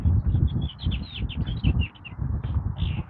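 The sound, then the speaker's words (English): A robin sings a steady run of short, high, warbling phrases, bright chirps repeating over a continuous low rumble of background noise, heard on a street in the morning. “I hear a robin.”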